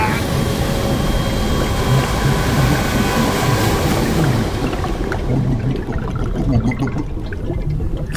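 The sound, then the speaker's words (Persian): A loud, steady roar of rushing water as the sea is split open, dense and churning, with its bright hiss thinning out toward the end while the low rumble keeps going. “خب حالا باید دریا رو بشکافم تا به اعماق شفوس کنم.”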